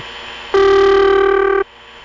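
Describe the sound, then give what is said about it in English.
A noisy telephone trunk carrier: a steady hiss on the line that never swells or whooshes, with a buzzy, mid-pitched tone cutting in loudly for about a second before stopping. “Then we have the noisy kind that has no whooshing.”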